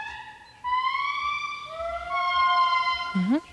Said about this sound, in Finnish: Tässä ilmeisesti jonkinnäköinen tuollainen pieni kädellinen apinaeläin tässä ääntelee.